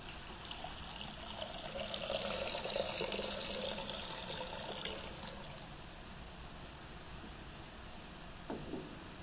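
Water is poured steadily into a basin for a baptism, a continuous trickle and splash lasting the whole time, with a brief brighter splash near the end and no voices.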